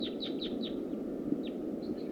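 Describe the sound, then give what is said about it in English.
A big flock of small wild birds, sitkansas, calls while flying high overhead: a quick flurry of thin, high, downslurred chirps, a lone call, then more chirps, faint over a steady hissing background with no talking. “Here comes some sitkansas again. Big flock. Flying over high.”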